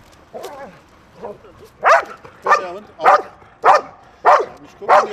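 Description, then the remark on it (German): A dog on a leash barks loudly, a steady series of six sharp barks about half a second apart, preceded by a couple of softer, whiny yips, while it bites into a dummy package, tugs it back and forth and jumps up and down. “Der Hund reißt das Paket hin und her, springt hoch und runter und bellt laut.”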